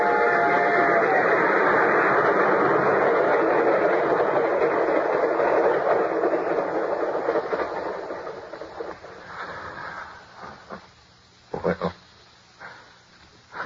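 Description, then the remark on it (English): A loud, roaring train approaches and passes with a brief whistle tone near the start, then gradually fades away, leaving a few scattered clanks and thumps at the end. “The train was coming closer. I could hear its bell. Its cry, its whistle crying.”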